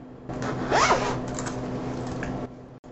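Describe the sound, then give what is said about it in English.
A zipper on a tablet case is yanked quickly back and forth to imitate a record scratch, producing a raspy, sweeping, loud scratch lasting about two seconds before stopping abruptly. “That was a record scratch by way of a zipper on a tablet case and first ever mid-introduction interruption.”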